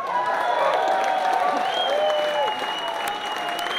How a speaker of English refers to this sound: Ladies and gentlemen, how about another round of applause for …?